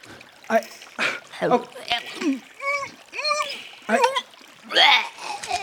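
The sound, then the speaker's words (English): Choppy bursts of water splashing and sloshing as a person is pulled underwater by the foot, mixed with gurgled, strangled vocal sounds, rising and falling in short uneven surges over several seconds. “I'm just being pulled underwater by my foot.”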